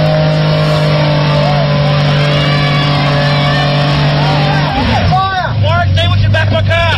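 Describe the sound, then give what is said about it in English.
A car doing a burnout at a gender reveal, making pink smoke: the engine roars loudly and steadily, then revs and squeals in rising, wavering bursts as a crowd murmurs and cheers in the background. “Gender reveals are becoming increasingly popular, with car burnouts one of the many celebratory methods used.”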